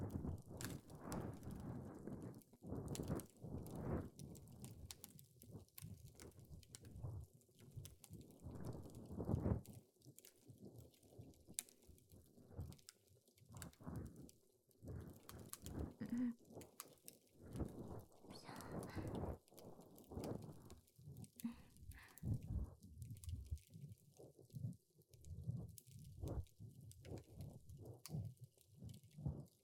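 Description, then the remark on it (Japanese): Continuous scratching and rubbing, a steady series of soft, irregular scrapes and brushes with no voices, as an ear pick cleans someone's ear in front of a fireplace. “耳かきに集中できません。今は耳かきに集中。”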